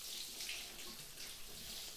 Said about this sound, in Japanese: では、シャワーで洗っていきますね。